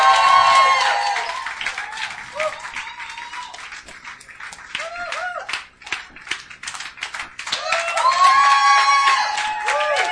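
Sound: audience applause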